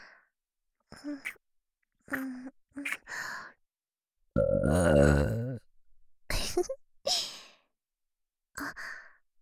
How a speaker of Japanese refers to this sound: ゲップ、こんな感じでいいですか？喜んでもらえて嬉しいです。お兄さんに感謝の気持ちをいっぱい伝えたいんですが、お兄さんには言葉よりもゲップの方がよく伝わりますね。今日は感謝のゲップをたくさんしますので、楽しんでくださいね。